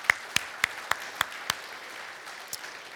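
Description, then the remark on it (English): Applause from an audience thanking mothers on Mother's Day, a run of six sharp, evenly spaced claps standing out over a soft hiss of clapping, then a lull and one last lone clap. No one speaks. “Let's clap for them.”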